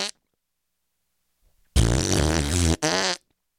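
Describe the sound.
A loud, buzzing fart noise blown with the mouth lasts about a second, then a shorter second burst follows right after. The sound plays alone, with no talking over it.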